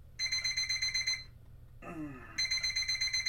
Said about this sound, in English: I rustle around under the covers and feel for the alarm clock. The alarm clock is still ringing when someone comes banging into my room. They come closer to the bed and turn the alarm off for me.